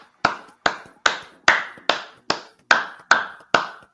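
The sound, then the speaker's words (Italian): A small round of applause for the spectators watching online: about nine sharp, evenly spaced claps at a steady brisk pace, each with a quick fading tail, with no talking over them. “io direi di fare anche un piccolo applauso ai nostri spettatori che si sono collegati con noi, quindi facciamolo.”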